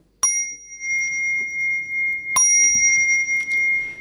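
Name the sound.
bell ringing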